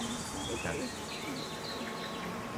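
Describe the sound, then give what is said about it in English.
A steady, droning hum of honeybees buzzing in a hive as a microphone is held into it, several insects overlapping in a continuous, fairly loud drone with no pauses and no one speaking. “Oh, we have another bee. Oh, another bee that got stuck in the honey there.”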